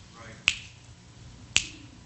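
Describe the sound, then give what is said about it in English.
Two sharp finger snaps, about a second apart, each a crisp bright click that decays quickly over a low hum of background noise. “Quicker than I can snap my fingers, there's probably two people dying.”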